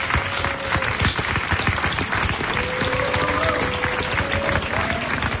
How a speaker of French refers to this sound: Je vous demande de faire un tonnerre d'applaudissements, s'il vous plaît.